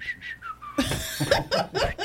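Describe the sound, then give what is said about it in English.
A few short, breathy whistled notes through the teeth, rising and falling, then broken off by bursts of laughter from several people. “I was whistling with my teeth.”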